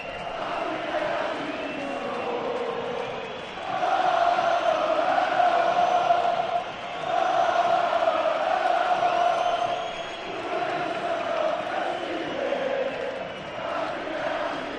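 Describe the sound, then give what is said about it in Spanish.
A roaring football crowd at El Molinón stadium chants and sings in a steady, dense wash of voices, swelling louder for a few seconds at a time before easing back, with no single voice standing out. “Espectacular, espectacular el ambiente en el Molinón.”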